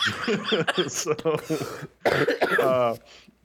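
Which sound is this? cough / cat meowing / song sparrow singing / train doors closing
cough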